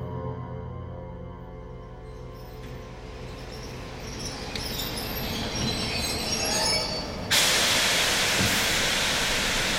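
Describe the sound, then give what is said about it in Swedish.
A train arriving in Munich in May 1942 rumbles and slows with steady squealing wheels and rattling cars, then a loud burst of hissing air or steam takes over near the end as it comes to a halt. “Redan innan tåget helt och hållet har stannat får hon syn på honom.”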